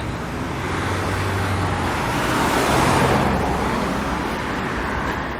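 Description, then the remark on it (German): Steady roar of road traffic with a car passing by, swelling to a peak midway and then fading, over a constant low rumble of engines. “Mal kurz über die Straße hier rübergehen, wenn es dann der Verkehr zulässt.”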